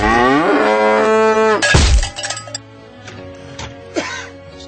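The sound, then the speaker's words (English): A loud, drawn-out cow moo from a toy cow catapult fills the first second and a half, cut off by a sharp clattering thump, followed by a few fainter mechanical clicks and squeaks. “It's the cow catapult. Yay, the cow catapult.”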